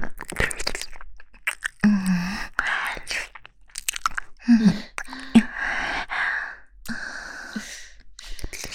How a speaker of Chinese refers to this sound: 看你这狼吞虎咽的样子，还真让我……